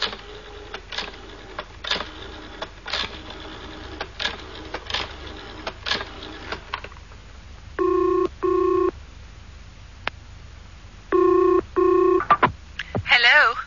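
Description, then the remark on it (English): A run of rapid mechanical clicking gives way to dialing a factory from a public phone box: loud, steady touch-tone beeps in two short groups, two tones then three, with brief pauses between them. “I'd better ring the factory before it closes.”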